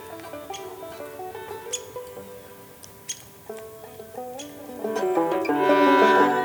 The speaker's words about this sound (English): I love the high-pitched squeak of the downy woodpecker. It almost sounds like my dog's chew toy.